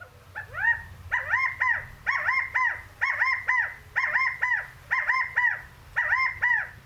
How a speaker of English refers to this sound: Phonetically, the call is described as having three syllables, ku-ka-kow, or as my Sibley field guide describes it, pu-wei-du. Here it is, the rally call of the California quail.